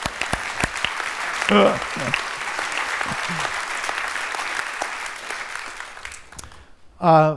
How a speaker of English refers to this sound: Yeah, another weak applause.